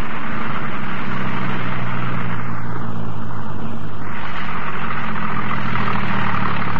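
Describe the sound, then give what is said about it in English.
A car engine idles steadily and loudly while the driver looks for a parking space by a boat dock, with a constant low rumble and faint tonal hum, and a brief dip in the hiss midway as it slowly maneuvers. “Just as soon as I can find a parking space here.”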